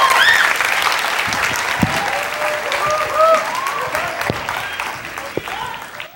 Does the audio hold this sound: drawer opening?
no